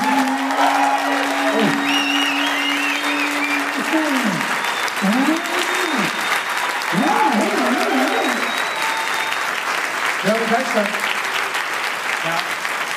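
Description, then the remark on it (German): Steady, dense audience applause fills the whole stretch, loud and continuous, with scattered high voices whooping and shouting over the clapping. “Und jetzt euer Applaus”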